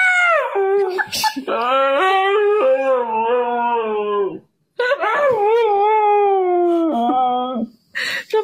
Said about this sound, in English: All right, we have to start off with the screaming husky, obviously. Obviously.